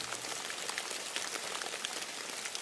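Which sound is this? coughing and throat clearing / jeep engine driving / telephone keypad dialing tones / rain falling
rain falling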